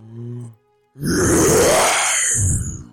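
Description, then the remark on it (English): A short voiced lead-in, a brief pause, then a person lets out a long, loud, gravelly roar for about two seconds, a voice imitating a beast's bellow that surges again near the end. “Can I do a big roar?”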